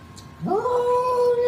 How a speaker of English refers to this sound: That is not an orgasm. That is a cat.